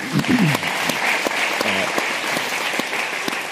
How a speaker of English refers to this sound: Excellent. Thank you. A round of applause